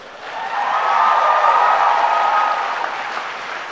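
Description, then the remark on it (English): A large crowd of graduates of the class of 2014 applauds their supporters at a graduation ceremony, the clapping swelling quickly to a full, sustained roar and holding for a few seconds before easing slightly, with no voices over it. “Now it's your turn to applaud all those people who have supported you through the years.”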